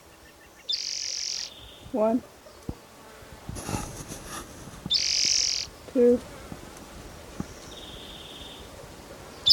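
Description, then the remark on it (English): A male bird gives short, high, buzzy calls in repeated bursts, ending with a thinner sustained whistle-like note. A person's voice counts aloud between the calls. “I think this is Riverside Atari number 8, the male that was calling in the previous bird's recording.”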